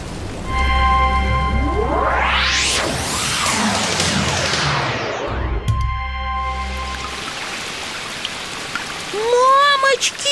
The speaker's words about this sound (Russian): А ливень как шел стеной, так и идет. Это не ливень, это потоп. Вода по улицам течет, лужи огромные, как озера.